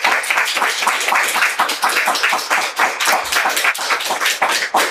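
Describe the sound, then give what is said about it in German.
A live audience in Berlin applauds a guest steadily, dense clapping from many hands at a loud, even level for several seconds, with no voices rising above it. “Heute geht's ganz ohne Imagination. Das ist dein Applaus.”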